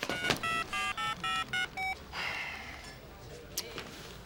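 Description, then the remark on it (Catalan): A quick run of about seven electronic keypad tones, each a short steady beep in a brisk even rhythm, as a man dials a friend's number on a borrowed mobile phone, followed by faint hiss and a brief soft click. “Doncs truca, Ramon, truca. Ell agafa el mòbil de la Mercedes.”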